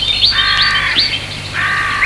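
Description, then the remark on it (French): Harsh, raspy bird calls repeat in quick succession, with brighter chirps layered on top, fairly loud, over a faint low hum with no talking, in a heavily wooded park of old, large trees by an old family house. “On entend le bruit des oiseaux.”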